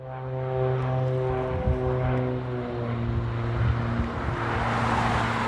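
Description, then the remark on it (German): A propeller plane circles in a grey sky over the city of Jeschuf, about 90 km from the Ukrainian border, with a steady, low harmonic drone that holds throughout, faint traffic from cars on the road to the airport beneath, and no voices. “Subtil kreist am grauen Himmel über Jeschuf ein Propellerflugzeug und verschwindet in den Wolken.”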